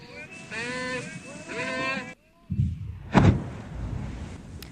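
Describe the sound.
A single deep blast of a controlled explosion of a Spanish Civil War artillery shell in the sea off a beach in Denia, Spain, with a sharp crack followed by a long low rumble that rolls on. Loud, high-pitched calling voices come just before it.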